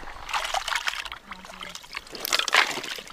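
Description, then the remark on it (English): A huge ladle scoops and pours a thick, wet, high-calorie stew of beef, kibble and water into dog bowls, with sloshing and dribbling in uneven bursts and a louder splattering pour near the end, during a sled-dog race layover in a small Klondike town. “Brent Sass was using a huge ladle to scoop stew into dog bowls”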